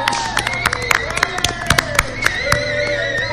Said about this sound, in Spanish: Un aplauso para ellas. Gracias, gracias.